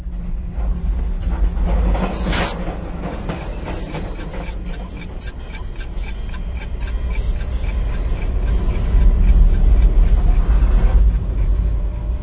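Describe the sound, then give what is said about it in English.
A steady, heavy rumble of a passenger sleeper train rolling along the tracks at night, with faint rhythmic clacks repeating throughout and no voices, swelling slightly louder toward the end. “I've never had my bed bounce around under me before. Well, good night. I'll just turn in and count trestles to fall asleep.”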